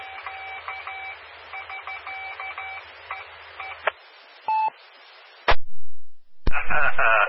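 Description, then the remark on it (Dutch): Morse code tones beep in quick dots and dashes, a message of thanks, through a hiss of static on an amateur radio, followed by a loud squelch burst, a sharp click and a rush of noise. “heb je dit laatste even kunnen ontcijferen? Ja, hij bedankt mij, morsen.”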